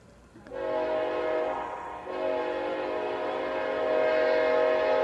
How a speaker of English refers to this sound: This is like the fourth train that has buzzed the field here in about the last 20 minutes. Been a busy night on the old choo-choo tracks.